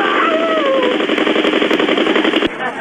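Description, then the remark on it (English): A motorbike engine runs loud as a coach rides it near a kid, a rapid, steady sputtering rattle throughout. A thin wavering whine rises briefly over it early on, and the noise drops off abruptly near the end. “So they never hit them with the bike?”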